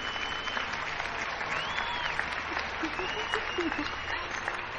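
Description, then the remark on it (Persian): Sustained audience applause for a woman, the lead actress, a dense steady wash of many hands clapping at an even level throughout, with faint crowd murmur and brief tonal squeals mixed in. “یک بار دیگه ایشونو تشویق کنید.”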